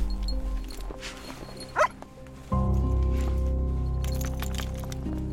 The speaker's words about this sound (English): I've got two certified dogs. One's a live find, certified through the OPP. Zappa is my human remains detection dog. a cadaver dog team has accompanied us to this remote wooded location.